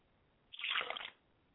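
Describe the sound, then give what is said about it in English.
A short splash of liquid being poured out as a libation to an ancestor's spirit, a bright, splattering burst lasting about half a second, fairly loud, with no voices. “I pour libations to my mother's spirit, Yamenye, and I say Ashe.”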